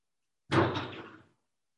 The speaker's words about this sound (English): Would you do something to that door? It's just the wind, but you can either close it or open it. There are rocks everywhere. Back door? Front door? I don't know which door it is. It might be the bedroom door. I'm not sure.